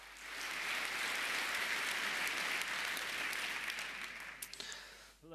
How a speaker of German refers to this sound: Bitte Applaus.